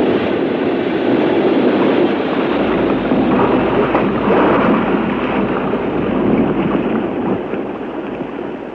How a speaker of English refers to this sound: The submarine was shaken by violent shocks, just as it was when those magnetic bombs were released